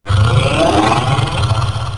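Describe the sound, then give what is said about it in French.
A deep, loud growl from a large creature resembling a bear or wolf, about 8 feet tall and 4 feet wide, as it comes toward campers; it rumbles continuously for about two seconds, heavy low tones with a rough, throaty texture and no talking. “on peut l'entendre encore grogner qu'elle s'en vient dans notre direction.”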